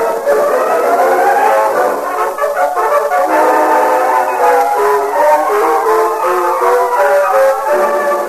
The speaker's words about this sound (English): A whistle sounded from the west, and 5 minutes later, the express steamed into the station at Clarksville.